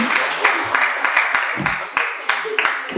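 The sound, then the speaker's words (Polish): A crowd applauds steadily for about three seconds for the person who played Lazarus in a staged Bible story, a dense wash of many hands clapping with sharper individual claps popping out, while a few voices murmur underneath. “Brawa dla Łazarza, słuchajcie, to była trudna rola.”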